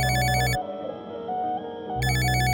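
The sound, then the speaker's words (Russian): A telephone rings in two loud electronic bursts separated by a short pause, with a faint tonal hum in between and no one speaking. “Эта история звучит как телефонный звонок.”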